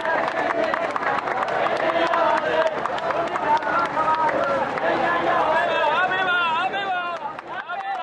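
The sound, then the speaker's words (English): A large crowd of onlookers lining the streets in Myanmar cheers and shouts continuously as a procession of monks passes, many overlapping voices forming a loud, steady roar for the full eight seconds, with scattered clapping and rising calls woven through it. “Large crowds of onlookers lined the streets, cheering as the procession passed.”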